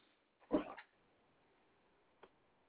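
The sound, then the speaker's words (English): A dog playfully attacking gives one brief, rough yip-like growl, followed by quiet and a single faint tap near the end. No one speaks. “I'm getting attacked by my dog.”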